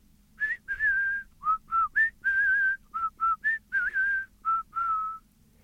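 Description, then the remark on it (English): A person whistles a bird-like song: about a dozen clear, short notes in a quick, uneven rhythm, some rising, some wavering, shifting between a few mid-high pitches, over a faint low hum. “Well, they couldn't quite understand bird language, you see, so all they heard was...”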